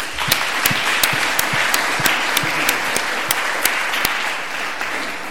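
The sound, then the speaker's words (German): An audience applauds steadily after a demonstration of two software exploits at once, a dense wash of many hands clapping with a few sharper, louder claps standing out throughout. No one speaks over it. “Okay, gleich zwei Exploits auf einmal, da auch ein Applaus.”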